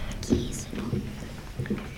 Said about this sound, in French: qui se frotte les dents avec son stylo. C'est une bonne réponse.